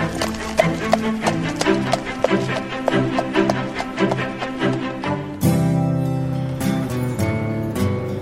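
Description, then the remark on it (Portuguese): A horse's hooves gallop in a quick, steady rhythm for about five seconds over a musical backing as a young woman flees on horseback, then a louder, sustained swell of music takes over. “É porque ela fugiu a cavalo, olha lá!”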